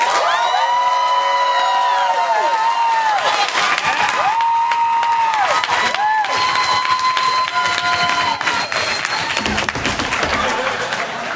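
An audience applauds loudly and steadily for about eleven seconds to pick a favorite act, with cheering and high rising whoops and shouts breaking out over the dense clapping.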